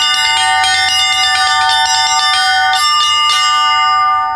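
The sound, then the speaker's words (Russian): The smallest group of belfry bells, the zvonki, chime in quick, overlapping strikes, their bright ringing tones sustaining loudly throughout, with no voices. “И самая маленькая группа – это зазвонки. Зазвонки как бы составляют самую красоту звона, самый узор, самый вот этот ажур, как говорится.”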